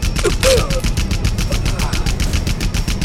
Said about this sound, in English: A storm of 50-caliber bullets pounded into Makayu, breaking his chest open amid flowing ribbons of blood. Great gouts of earth exploded all around him.